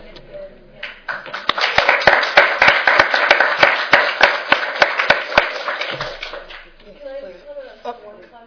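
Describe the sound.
A burst of hands clapping in applause for someone's accomplishments, dense and lively with sharp individual claps, lasting about five seconds before fading into quieter background voices.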